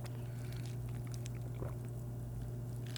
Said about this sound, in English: I'm gonna take one more sip and then call a day.